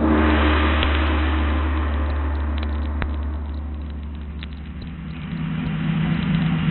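A car engine runs steadily throughout with a deep, continuous rumble and road noise, dipping slightly midway before the motor swells and revs a little louder near the end. No one speaks.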